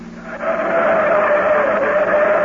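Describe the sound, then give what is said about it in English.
A new car speeds down a steep, winding grade with sharp turns, its loud, steady engine whine rising slightly in pitch, mixed with rushing road and tire noise. No one speaks. “The new car handles great. These turns are plenty sharp”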